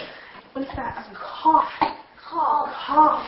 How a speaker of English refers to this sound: What's that? A cough. Cough. Cough. I have a cough.